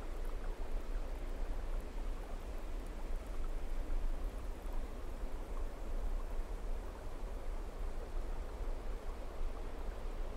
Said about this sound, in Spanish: Comienzas a escuchar a lo lejos un sonido de agua que cae. Te vas acercando más y más. Y de lo alto de una montaña puedes apreciar una cascada. Ahora la escuchas fuerte. Es un sonido precioso.